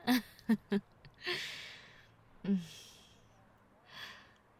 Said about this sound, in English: Now, please do ignore my flush and heavy breathing. I had to walk here, and it was a surprisingly far away place.